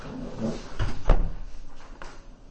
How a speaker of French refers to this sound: On ferme la porte. Bon, on va fermer la porte. Oui. On ferme la porte.